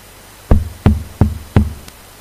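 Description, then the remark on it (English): Four firm knocks on a wooden door, evenly spaced, each with a deep, hollow thud, followed by a brief quiet tail with no voices. “And then I knocked the day after, the tomorrow, the next day, and I remember he was there at the door”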